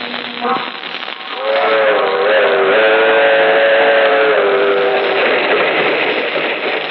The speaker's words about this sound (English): That train is the Southeast Limited. See it? Long, sleek, and powerful. Taking off for miles on a humming rail. A masterpiece of 20th century mechanical perfection.